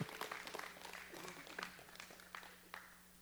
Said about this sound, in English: Oh, y'all, please don't give me that golf tournament clap. Come on, if you're going to clap right.